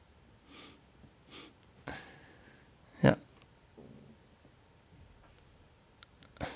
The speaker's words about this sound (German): Auch schön das Atmen jetzt. Jetzt hören wir ihn atmen.